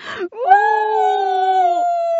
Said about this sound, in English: They screamed together.